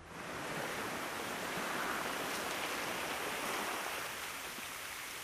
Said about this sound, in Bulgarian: Ти си в Александрия. Това е морето, а там на юг са пирамидите.